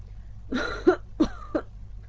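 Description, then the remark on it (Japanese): Two distinctive coughs in quick succession from a man walking on a night road, each a short harsh burst with a throaty rasp, fairly loud, separated by a brief pause over a low background hum. “と二つ特徴のある咳をしたので、私にははっきり分かった。”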